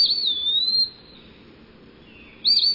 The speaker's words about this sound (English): Pretty much whistling out its name, Peewee. A bit harder to imitate, though.